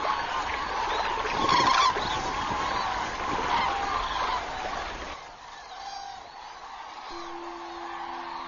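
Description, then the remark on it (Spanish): A large flock of common cranes gives a dense chorus of honking, trumpeting calls, loud and continuous at first, then thinning to quieter scattered calls over a steady background hum, as late arrivals join the flock during the night. “Las más retrasadas se unen a sus compañeras grullas a lo largo de la noche.”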